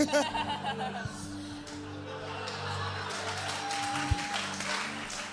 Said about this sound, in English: Don't clap that. I thought it was good.